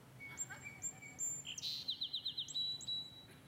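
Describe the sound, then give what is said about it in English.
A sparrow sings alone in the open: a few thin, high whistled notes followed by a quick, rhythmic trill of repeated chips, then more clear whistles, with faint background hiss. “That, by the way, is actually a real sparrow singing a real song.”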